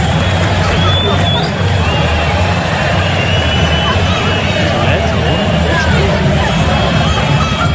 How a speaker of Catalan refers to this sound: Hi ha un vídeo des de dins la onada enregistrat des de la graderia